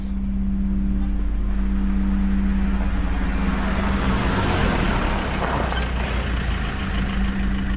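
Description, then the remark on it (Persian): A car engine rumbles steadily, its low drone shifting as the vehicle rolls up on a street at night and settles to a stop, parking beside a man who is waiting, with faint road noise around it and no voices. “گیهان منتظره، به ساعتش نگاه میکنه که یه ماشین کنارش پارک میکنه.”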